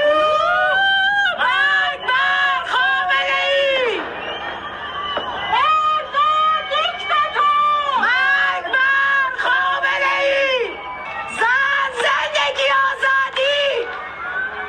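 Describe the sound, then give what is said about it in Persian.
Many voices of protesters shout rhythmic slogans such as "Death to Khamenei" and "Death to the dictator" in short, repeated bursts from rooftops and windows in Chitgar, Tehran, Iran, at the Nowruz new year moment, echoing across a neighborhood at night, loud and continuous with overlapping chants. “همزمان با تحویل سال در بسیاری شهرهای ایران از جمله تهران فریاد اعتراض مردم هم از پشت بام ها یا پنجره های خانه هایشان شنیده شد.”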